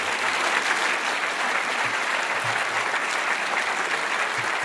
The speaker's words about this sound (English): And I'd just like to ask for a round of applause as we conclude the talking portion of the debate.